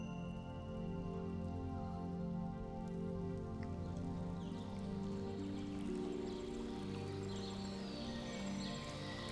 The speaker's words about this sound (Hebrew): יש נחל לאורך הפגודה, סובב את הפגודה. ממש אפשר לשמוע את זרזיף המים העדין של הנחל.